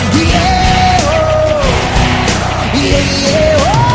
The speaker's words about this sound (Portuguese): Eu quero ouvir vocês nessa troca de energia. Vai galera, coração, quero ouvir a multidão.